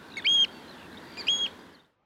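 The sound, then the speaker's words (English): An oystercatcher on an estuary gives two loud, shrill piping calls about a second apart, over a steady background hiss of wind and open water. “There's the plover, the red-throated diver, the curlew, the bar-tailed godwit, and the very distinctive oyster catcher.”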